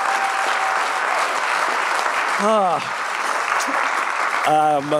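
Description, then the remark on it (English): An audience bursts into a round of applause for everyone who played the game Bot or Not, a dense, steady clatter of clapping that holds loud for the whole stretch, with a couple of rising vocal whoops cutting through near the middle and end. “Let's give everyone a big round of applause for playing Bot or Not.”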